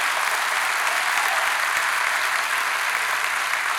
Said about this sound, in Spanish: Después, si le va a aplaudir, apláudale duro. Si no, no le aplauda.